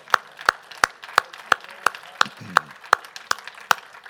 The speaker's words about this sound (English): Would you give the Lord a clap and thank him?